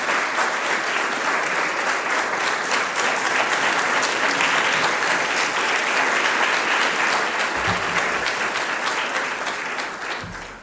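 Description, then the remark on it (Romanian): An audience applauds steadily in a church, a dense, sustained wash of many hands clapping that begins to taper off near the end, with no voices standing out. “Să-l mai aplaudăm o dată și să-l arăți bisericii.”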